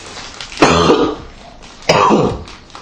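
A person coughs hard in two rough, heavy bursts about a second apart, loud, with quiet breathing between them and no talking.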